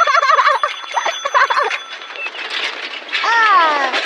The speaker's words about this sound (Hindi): नई साइकिल को चलाने में तो बहुत मजा आ रहा है, ये तो बिल्कुल जूम जूम करके चल रही है। घंटी बजाओ ना।